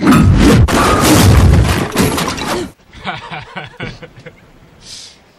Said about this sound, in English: I just fell off a chair.